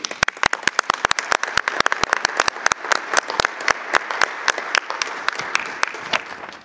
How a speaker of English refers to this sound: Let us offer Mrs. Faure another round of applause.